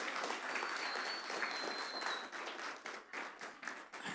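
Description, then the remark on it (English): A crowd applauds steadily as a woman comes up to pray, many hands clapping in a dense, continuous wash that holds loud and then begins to thin and flutter toward the end. “So can we give her a round of applause as she comes up?”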